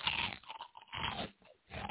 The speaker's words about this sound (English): Ooh, nice crunch. Mmm. Kind of like a really hot Cheeto.